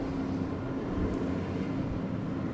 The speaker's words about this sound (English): Trash truck.